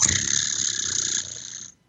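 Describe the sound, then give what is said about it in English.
A group of voices imitates a cat's purr: a steady, rolling, rumbly buzz held for under two seconds, easing slightly before cutting off. “Everybody do a kitty cat purr.”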